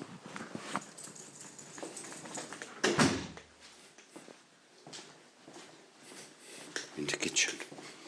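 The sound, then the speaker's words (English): A dog, Rook, moves about on a hard floor after a good long walk as it goes into the house and kitchen, with scattered clicking and scuffling steps, a louder bump partway through and a few faint rustles, while a voice murmurs quietly underneath. “So there we are, little walk, little dog walked. He's had a good long walk today.”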